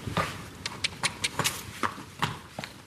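Horse hooves clop on a hard surface in an uneven, walking rhythm at a livery yard keeping 12 horses outside Rattoath, County Meath, a dozen or so sharp knocks over a few seconds, moderately loud with no one talking.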